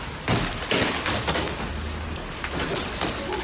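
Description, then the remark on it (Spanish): Hailstones about 10 centimetres across, like tennis balls, hammer down in a dense, loud clatter during a hailstorm lasting barely 10 minutes in La Bisbal d'Empordà, Girona, Catalonia, a constant roar of impacts with sharper bursts of cracking hits, setting off car alarms, and no voices. “Es el sonido de la espectacular granizada de apenas 10 minutos, pero que incluso, como estamos escuchando, hacía saltar las alarmas de los coches de los golpes del granizo.”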